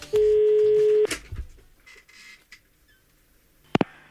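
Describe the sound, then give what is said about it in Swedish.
A single steady ringback tone from an outgoing prank phone call on the Mix Megapol Göteborg radio show Morgongänget sounds for about a second, followed by quiet line hiss and then a sharp click as the call connects. “Ja, och hon vi ringer, hon är lite känd som en supermorsa med ton av tålamod.”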